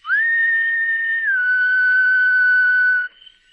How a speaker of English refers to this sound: Moving silently across the soft cushion of the lawn, he stationed himself beneath a second-story window. Looking up, he whistled softly.